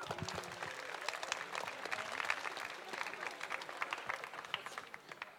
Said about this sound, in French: Et enfin, pour finir, une étoile filante d'applaudissements